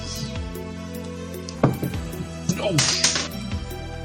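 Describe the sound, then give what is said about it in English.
A sudden clattering knock as an object falls off a table, followed by a brief rattle, with people talking and reacting in the background. “It fell off the table.”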